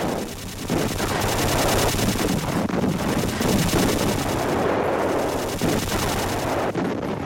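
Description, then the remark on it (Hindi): Sustained machine gun fire rattles on for several seconds, dense rapid bursts blending into a loud, continuous crackling roar with no voices; Pakistani machine guns firing from cement pillboxes on the outskirts of Dograi during an attack. “डोगराई के बाहरी इलाके में सीमेंट के बने पिल बॉक्सेस से पाकिस्तानियों ने मशीन गन से जबरदस्त हमला किया।”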